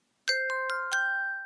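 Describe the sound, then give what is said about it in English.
A quick run of bell strikes, about four bright chimes in under a second, each ringing on and overlapping into a sustained, shimmering tone. Close and clear, with no voices. “Three Liberty Bells!”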